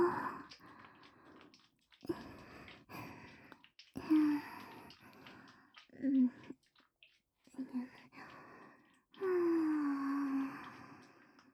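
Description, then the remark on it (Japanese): Heavy, excited panting, breathy bursts coming in uneven runs with short pauses between them, some breaths catching into a faint voiced moan. “そんなにハァハァしてたらお口まで食べられちゃうかもれちゃうよ。”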